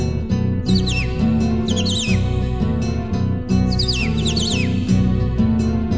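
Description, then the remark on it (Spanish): A cardinal sings in short bursts of bright, falling whistled notes, repeating several times over steady, full instrumental music that plays underneath throughout. “Canta el cardenal.”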